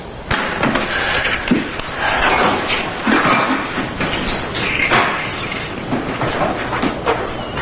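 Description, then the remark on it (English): Clattering and rustling as a man loads food into a refrigerator, with several sharp knocks and a door thudding shut amid the busy handling noise. No one speaks. “He puts the food in the refrigerator.”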